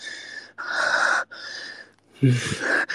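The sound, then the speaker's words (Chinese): Four heavy, rasping breaths follow one another in a steady rhythm, loud, with the last exhale carrying a brief throaty, voiced edge. “我要听着老婆大口大口的喘气”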